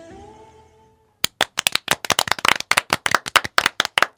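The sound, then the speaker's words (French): A fading tonal hum gives way to a small group of guests clapping in the studio of radio station RDWA 101.7: sharp, fast, irregular handclaps that build into steady applause for about three seconds, with no voices. “Eh oui, vous êtes sur RDWA 101.7 et on s'applaudit parce que même si on est déprimé, on est des gens formidables et il faut se rappeler et prendre confiance en soi et se dire qu'on est des gens bien.”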